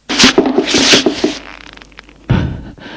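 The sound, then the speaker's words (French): A woman falls to the ground after being slapped: a burst of rustling and scuffling clothing, then a fainter pause and a single dull thud against the floor. “Elle tombe à terre.”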